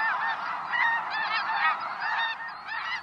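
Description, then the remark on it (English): A dense chorus of snow geese in flight honking overlapping nasal calls without pause, a large flock sounding fairly loud, with no voices present. “Birds, they're often in flight. Snow geese.”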